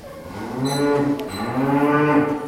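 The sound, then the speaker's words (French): A cow on a large dairy farm in Lavarone moos loudly, a long, low, drawn-out bellow with rich harmonics that rises and swells across the whole clip, with faint chirping in the background. “Les vaches, on peut les voir, elles sont magnifiques, elles sont très bien entretenues.”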